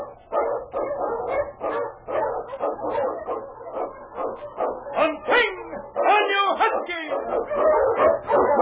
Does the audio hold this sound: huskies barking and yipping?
yes